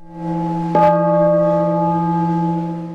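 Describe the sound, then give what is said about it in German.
A single gong stroke announcing mealtime for missionaries at a mission's regional house in Taitung, southeast Taiwan, rings out with a sharp strike, then a long, steady metallic hum of sustained tones that slowly fades, heard alone. “Der Gongschlag heisst, es gibt zu essen.”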